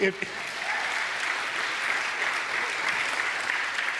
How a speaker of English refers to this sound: And so if you're visiting with us today, let's clap.